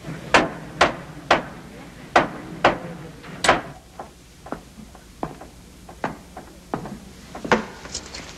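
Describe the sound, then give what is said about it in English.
Carpenters hammering while erecting a scaffold in the tower precincts: a series of sharp wooden knocks, a loud steady run of blows at first, then quieter, irregular taps continuing alongside. No voices. “Meanwhile, carpenters erect a scaffold in the tower precincts.”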